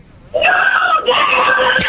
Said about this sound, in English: waking up teenager Marie, who's trying to sleep in, by screaming snow day